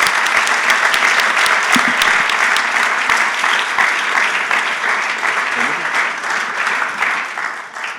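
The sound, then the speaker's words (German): Sustained, loud applause from a large audience at a Christian gathering for the couples present, a dense wash of clapping that stays steady before easing slightly toward the end, with faint voices mixed in. “Lasst uns unseren Paaren hier nochmal einen kräftigen Applaus geben.”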